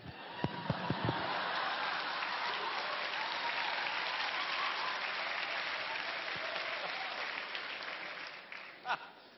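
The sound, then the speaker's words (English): A crowd of young people claps steadily for several seconds, a dense, even wash of applause, with a few sharp louder thumps near the start and one near the end. “Oh, look at these young people clapping.”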